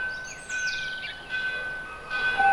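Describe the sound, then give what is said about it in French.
Church bells of villages in the Berry region of France ring in the grey early morning, answering one another from one hillside to the next, their sustained metallic tones overlapping and swelling softly in the open air, with no voices present. “D'une côte à l'autre, les cloches se répondent et leurs voix chantent dans nos souvenirs.”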